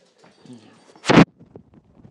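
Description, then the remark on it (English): Yusuf the dog's paws patter quickly across a hard floor, light irregular taps broken by one loud, brief thump midway, with soft indistinct background murmuring. “Well, there's Yusuf running across the floor.”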